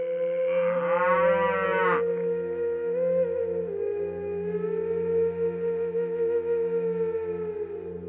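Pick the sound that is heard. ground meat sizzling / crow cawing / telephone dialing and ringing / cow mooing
cow mooing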